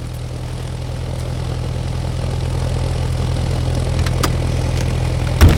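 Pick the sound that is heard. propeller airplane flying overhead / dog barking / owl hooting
propeller airplane flying overhead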